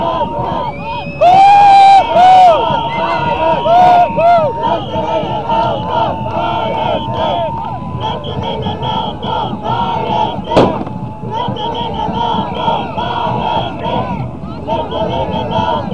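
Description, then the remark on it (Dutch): A dense, loud crowd of press people with cameras and press cards shouts and calls out, running back and forth after a helicopter has landed, over constant hubbub, with a sharp bang cutting through partway. The commotion stays busy throughout. “Nou, allemaal pers, dit is een boel pers.”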